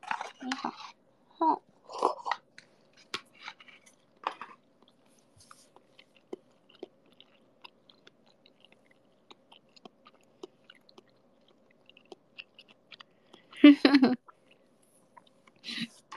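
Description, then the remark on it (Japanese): Close, wet chewing and crunching of food with sanshō pepper, picked up by an iPhone microphone, with irregular mouth clicks and smacks and swallowing sounds, bursts clustered at the start and a louder crunchy flurry near the end, with quiet gaps between. “そう、いつものマイクだとさ、なんかちっちゃすぎる音を入らないようにしてるから、ちょっともぐもぐしてもその咀嚼音はなかなか入らないんですよ、あの ASMR 以外は。”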